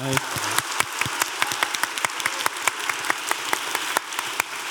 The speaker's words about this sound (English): She's right there. Give her a round of applause, honestly.